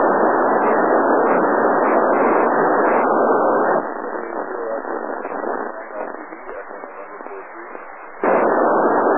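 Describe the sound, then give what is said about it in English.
Loud, narrow-band radio static hisses on a Kenwood 2000 radio, then gives way to a faint, garbled voice of a station calling, breaking up over the channel before the harsh static surges back. “Yeah, there was somebody calling me, but boy, you just went in for some reason.”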